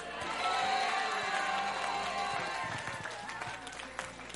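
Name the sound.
audience clapping and shouting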